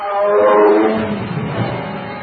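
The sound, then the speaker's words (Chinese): A hungry caged tiger with a white forehead, about to pounce as someone enters, lets out a single loud, rumbling roar lasting a couple of seconds, harsh, trailing off into a rough growl. “笼中一只吊睛白额大老虎已是饿得饥肠辘辘，看见有人进来，立即就要扑上去。”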